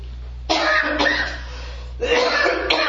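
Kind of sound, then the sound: human body sound, cough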